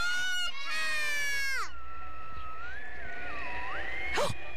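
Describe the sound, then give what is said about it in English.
A crowd of children yell "Santa!" together in unison on a count of three, one loud, high-pitched shout lasting about a second and a half before cutting off, followed by quieter warbling tones. “Everybody yell Santa.”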